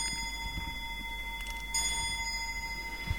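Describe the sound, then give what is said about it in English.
An antique clock, about 200 years old, at the Woods Hole Public Library chimes, its bell tones ringing and sustaining, with a fresh strike about halfway through. It is fairly quiet, with no voices. “You want to tell me about the clock now? Yes, the clock is about 200 years old.”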